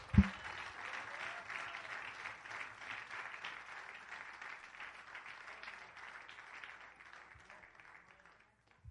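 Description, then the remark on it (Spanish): A church audience applauds for Jesus Christ steadily for several seconds, a dense wash of many hands clapping at moderate loudness that slowly tapers off near the end. “Que aquí el único grande se llama Jesucristo. Démele un aplauso.”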